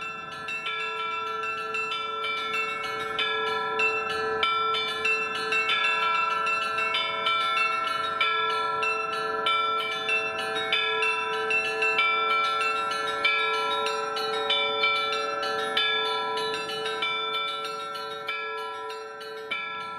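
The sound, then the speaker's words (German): The carillon of a small Orthodox chapel at Admiralski Square rings out a steady melody, its bells' clapper ropes pulled in rhythm by a machine, bright bell tones striking in a continuous rhythmic pattern with long overlapping resonance, fairly loud, with no voices. “Da gibt es so einen kleinen Triumphbogen zu Ehren des Zars Nikolaus II., außerdem eine kleine orthodoxe Kapelle, in der ein Glockenspiel dann gerade eingesetzt hat, als wir dort waren.”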